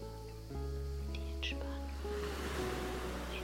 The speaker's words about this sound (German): Für die meisten Menschen ist das Geräusch von Wellen sehr entspannend. Höre hin und lass dich auch dich entspannen.